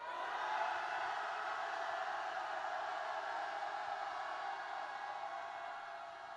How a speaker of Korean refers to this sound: 우리 투쟁의 함성, 승리 함성 다 같이 질러보겠습니다. 함성 하나, 둘, 셋!